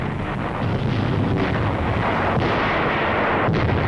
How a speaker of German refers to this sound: In einem englischen Film, der wie Propaganda daherkommt, wird der Luftangriff von oben gezeigt. Ich sehe, wie die Bomben explodieren. Helle Blitze. Nürnberg brennt.